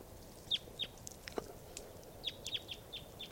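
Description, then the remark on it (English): Wild birds call back and forth in short, high chirps, a few isolated notes followed by a quicker cluster, faint over a low steady background hiss. “Wild birds. And that's also 3 at 7 calling in response.”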